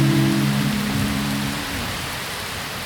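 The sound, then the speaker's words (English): Steady rain from a thunderstorm in Blacksburg, Virginia pours down in a dense, even hiss, with a low rumble in the first second or so that fades as the downpour continues alone. “You heard a Blacksburg, Virginia thunderstorm,”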